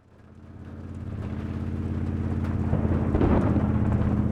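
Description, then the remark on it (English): Steady rain on a stormy night fades in and holds, layered over a deep, pulsing rumble like an idling truck, with no voices. “It was a rainy night, and we had gone into town to fetch groceries.”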